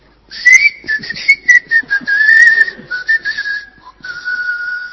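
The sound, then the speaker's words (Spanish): A person whistles a meandering tune through their teeth, breathy and airy, fairly loud, with short phrases and brief pauses throughout and no talking. “Y me la llevo al hombro un poco inclinado así, chiflando, entre dientes.”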